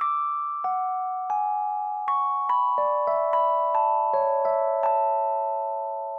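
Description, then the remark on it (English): A cell phone ringtone plays alone: a melody of about a dozen clear, bell-like electronic notes that come faster as it goes, each tone ringing on and overlapping the next. “And we feel the motion towards that getting closer and closer every time that cell phone ring restarts.”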